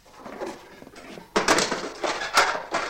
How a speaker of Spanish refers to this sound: Ve una caja de herramientas y la abre para coger clavos y un martillo.